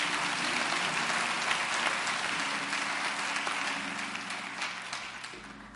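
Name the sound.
audience hand clapping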